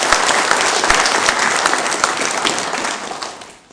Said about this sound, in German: Einen ganz kräftigen Beifall für alle, die mitgehen.